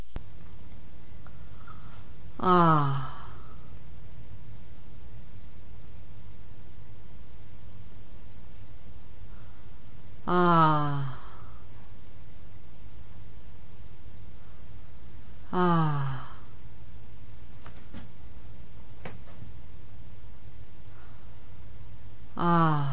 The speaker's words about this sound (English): Full breath, and very shallow. With the patient now preoccupied with her thoughts, her breathing becomes shallow, and she no longer uses the belly in the breathing.